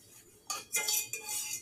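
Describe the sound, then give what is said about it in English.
Someone eating noodles from a pot: a utensil scrapes and clinks against metal in three quick bursts of bright clatter, with no talking. “I'm pretty sure my ex-roommate would probably, like, hear me eating out of the pot and would, like, want to slap me silly or something.”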